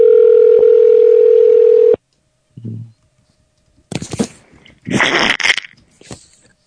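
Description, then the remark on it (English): A steady, buzzing telephone ringing tone sounds once for about two seconds and cuts off abruptly, followed by a soft thump and then loud, harsh bursts of noisy rustling. “I didn't want to keep playing the rings, honey.”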